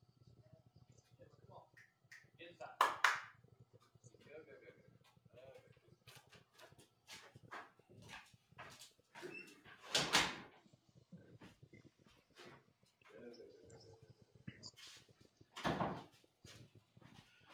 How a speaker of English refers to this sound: Hold on a second. My dog is out here raising hell at something. Let me make sure she Something. doesn't have some poor animal cornered.